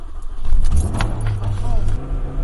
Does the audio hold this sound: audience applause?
no